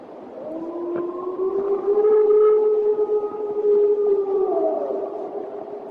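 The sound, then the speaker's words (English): A long, drawn-out wolf-like howl with a wavering pitch rises slowly, holds steady, then sags near the end, sounding fairly loud over a faint background hiss. “This is a recording from North Carolina of a Bigfoot, supposedly.”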